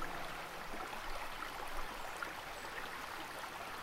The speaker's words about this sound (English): Impenetrable sheets of water pouring from the sky. Torrent rain comes to mind. Rain.